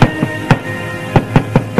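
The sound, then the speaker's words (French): A servant knocks on the door of an upstairs office in a large house: two sets of three sharp, hollow raps, separated by a short pause, with a steady low hum underneath and no voices. “Frappe à une porte.”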